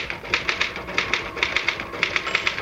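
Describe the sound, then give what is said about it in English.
Brisk typewriter keystrokes clack in quick irregular bursts, a dozen or more sharp mechanical strikes, clear with no voices. “Just hit the typewriter”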